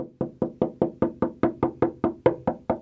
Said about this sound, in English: I wake to the sound of banging on my bedroom door and my sister shouting for me to get up.